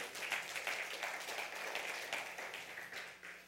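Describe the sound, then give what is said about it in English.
An audience claps steadily, a dense wash of many hands that holds for a few seconds, then thins slightly toward the end. No one speaks over it. “You can clap for that if you like that.”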